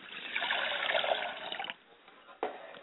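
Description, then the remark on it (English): Liquid is poured out as a libation in a steady splashing stream for about a second and a half, then stops, followed by one brief final splash; fairly loud, with no talking. “And we pour libations to the south, and we say Ashe.”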